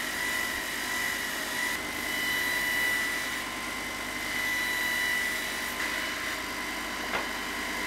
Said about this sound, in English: So what I need to do is I just take that sharp edge off on the linishing belt.